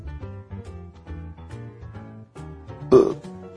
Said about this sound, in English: Excuse me, I burped.